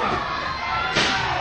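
A sharp, loud slam cuts through steady crowd noise about midway, a single heavy impact as the wrestler Medic whacks the wrestler LT with a chair, with the crowd roar continuing around it.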